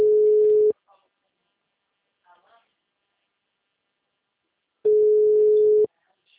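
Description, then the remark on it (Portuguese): A loud, steady telephone busy signal tone sounds twice, each burst about a second long, separated by several seconds of near silence with only faint, brief murmurs in between. “Você pode ser atarifado após o sinal.”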